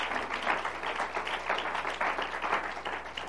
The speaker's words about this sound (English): Could you give the Lord a hand clap of praise?